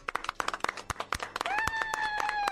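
A short burst of applause, quick sharp claps from a small group, joined midway by a sustained high whistle or cheering tone that rides over the clapping until the end.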